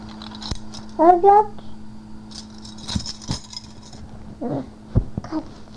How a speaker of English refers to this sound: What's that? Keys? Keys. There it goes. Keys. Keys. Do you want these keys? Do you want these keys too?